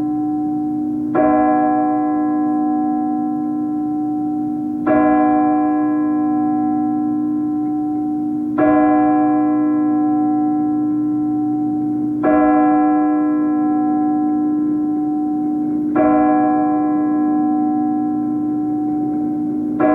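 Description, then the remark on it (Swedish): A church bell strikes twelve o'clock with slow, evenly spaced strikes, six heard here, each ringing bright and loud before decaying into a steady low hum that sustains between blows. “Klockan slår 12.”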